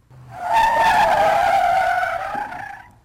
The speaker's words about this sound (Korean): 아, 비켜라, 비켜! 언뜻 돌아다 보니 바로 눈앞에 자동차 머리가 달려든다.